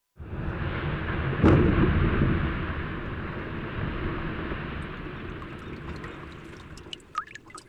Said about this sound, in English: The ice cracks, fizzles, drips, and calves. These are the sounds of Glacier Bay National Park in Alaska's southern region, where most of the state's glaciers are concentrated.